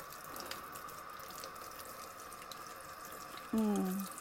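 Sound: hot water running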